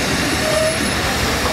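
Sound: train running on rails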